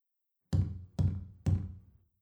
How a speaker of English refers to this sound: Whence is that knocking? How is't with me when every noise appalls me?